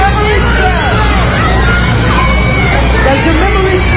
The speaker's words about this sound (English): They're all yelling the words to him.